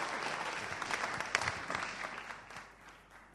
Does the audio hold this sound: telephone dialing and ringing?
no